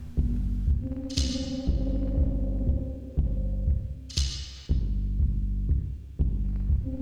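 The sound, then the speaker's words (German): An air conditioner, its dial turned all the way up to 9, hums steadily with a low, throbbing pulse about twice a second, blowing hard, and two brief hissing rushes of air rise over the drone. No one speaks. “Die Klimaanlage braust und bläst ihm die langen Haare nach hinten.”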